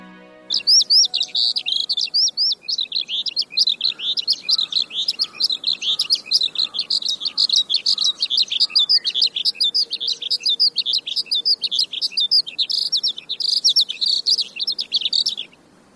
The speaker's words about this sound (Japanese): ヒバリです。全長およそ17センチ、スズメに似た羽の色と模様をしていますが、スズメより少し大きな鳥です。